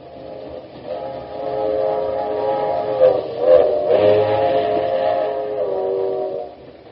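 The president's train at Pueblo, Colorado, ordered back to Washington, rolls along steadily, its continuous rumble carrying a sustained, whistle-like chord of tones that swells and shifts midway before settling back; no voices are heard.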